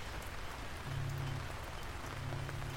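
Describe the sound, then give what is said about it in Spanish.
Steady rain pattering on a hard surface, a dense continuous hiss of drops, with a faint low hum rising briefly in the background. No one speaks. “Después de eso comenzó a llover.”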